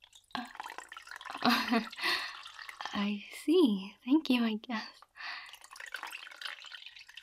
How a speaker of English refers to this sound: I like when you pour the water over me because it makes that noise, the trickling. It's very pleasant.